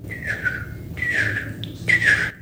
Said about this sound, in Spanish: ¡Ah! Estoy escuchando el canto de unos pájaros.